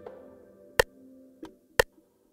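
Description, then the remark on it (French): Three crisp, clock-like ticks land at uneven intervals, sharp and fairly loud, over a soft, steady low hum with no voices. “eux ils entendent le tic-tac de l'horloge, la cocotte minute.”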